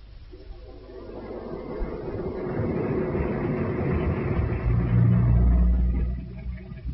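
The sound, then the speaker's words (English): A car engine rumbles steadily as the vehicle drives along, the low drone swelling louder toward the end before easing off slightly, with no voices present. “Now, get back in the car. We've quite a way to go.”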